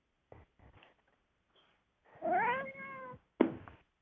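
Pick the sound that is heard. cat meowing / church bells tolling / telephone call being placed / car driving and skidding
cat meowing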